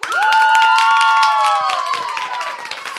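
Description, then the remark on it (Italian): A group of students applauds, steady dense clapping with a few high whoops and cheers riding over it, loud at first and thinning slightly toward the end. “interviste realizzate nell'ambito di questa puntata speciale del Suggeritore Night Live dedicato agli studenti e alle studentesse del primo anno dei corsi di organizzazione, regia e scrittura per lo spettacolo, che si fanno un applauso.”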